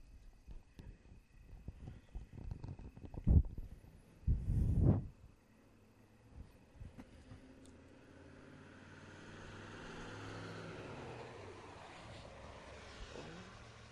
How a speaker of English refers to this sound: No traffic, then tons of... Look, there's another car. What? What's up with that? There's too much traffic, man. Ah, and it's turning our way again.